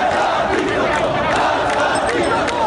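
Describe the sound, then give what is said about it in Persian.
A large crowd of protesters in Iran shouts slogans against the guardianship of the Islamic jurist and Ayatollah Ali Khamenei, a dense, steady roar of many voices that stays loud throughout without a break. “شعارهای علیه ولایت فقیه و آیت الله علی خامنه ای رهبر جمهوری اسلامی فریاد زده شد.”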